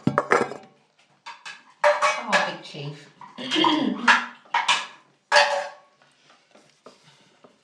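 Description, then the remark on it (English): Pet food dishes clatter and clink as they are picked up and set down after the pets' breakfast, several sharp metallic knocks in a loose rhythm, with a person briefly speaking. “When I taken their food, their dishes away. Here you go.”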